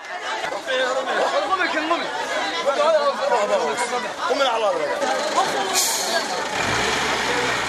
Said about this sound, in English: Another AMISOM military truck evacuates scores of Somali people trapped in the flood waters.